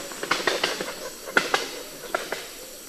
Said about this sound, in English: But unlike moas and dodos, which are both extinct, crowned pigeons can fly, and they do so with a loud wing crack.